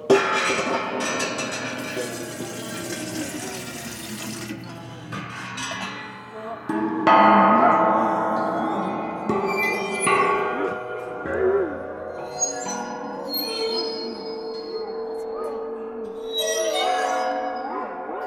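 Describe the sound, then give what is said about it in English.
Eerie ringing tones from a waterphone, a metal instrument with water inside, pitches warbling and bending as they sustain, layered with shimmering high overtones and a few sharper metallic pings, played alone. “this weird instrument became the go-to spooky sound in Hollywood. And now if you put some water in...”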